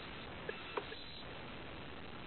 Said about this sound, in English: Someone here has got their microphone not on mute. That's why my voice is echoing, and that's why we can hear someone typing.